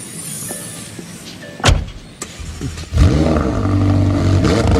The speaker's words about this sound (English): It's her car.